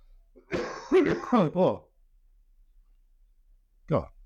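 A loud run of harsh throat clearing and coughing lasting over a second, followed after a quiet pause by one more short cough.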